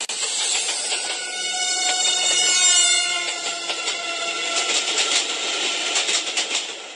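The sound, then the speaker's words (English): A passing train rumbles and hisses with a droning whine and a Doppler shift, then its wheels clack rhythmically over the rail joints in quick repeated clicks, loud, with no voices. “That clicking noise is the noise of train wheels”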